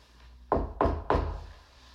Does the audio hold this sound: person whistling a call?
no